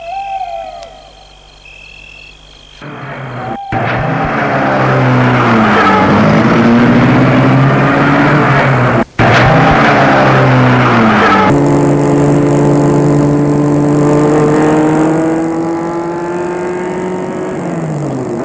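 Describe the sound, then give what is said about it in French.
A car engine starts abruptly and revs loudly, its droning pitch climbing and briefly cutting out before accelerating again as the car pulls away, with no talking. “Et Gilbert la met en route.”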